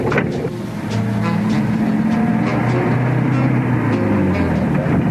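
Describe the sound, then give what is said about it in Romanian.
A car engine drones loudly on a straight road, briefly dipping about a second in before settling into a new, steady pitch as the driver shifts into second gear. “Trece viteza a doua.”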